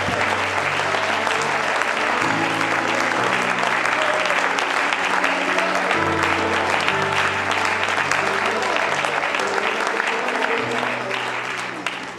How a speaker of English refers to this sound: One more time, clap our hands and thank the Lord for his word and for his presence.